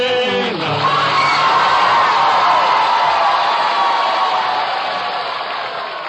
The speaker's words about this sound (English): and you, the audience, will tell us which one is the winner by your applause. Please, no weaseling. Just, you can scream and applaud all you want